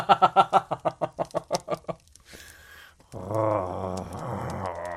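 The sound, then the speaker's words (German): A voice imitates a contented purr: a run of about a dozen quick, rhythmic voiced pulses that slowly fade, then a soft breathy hiss and a longer, steady hum. “Bevor sie den Satz beenden konnte, machte Rainer ein schnurrendes Geräusch, ähnlich einem Faultier, das zufrieden in der Sonne döste.”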